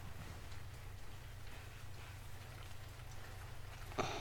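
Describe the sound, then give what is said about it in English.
Steady rain falls outside the window, a soft continuous hiss with a low rumbling undertone, heard from indoors at a gentle, even level, with a brief sharper patter near the end. “We can wrap the covers over us while we just watch the rain.”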